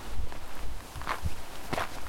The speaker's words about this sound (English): For instance, we can get a good idea of changes in terrain and landscape by listening to footsteps. Here I am at Mount Gosford in southeastern Quebec. Take a listen.